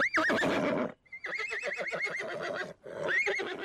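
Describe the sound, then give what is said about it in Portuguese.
A horse whinnies loudly in three shrill, wavering bursts, the middle one a long quavering neigh, with no talking around it. “Uma crendice popular de várias culturas latinas diz que a pecadora se transforma numa mula sem cabeça na noite de quinta para sexta-feira e corre 7 freguesias assombrando o povo com relinchos assustadores.”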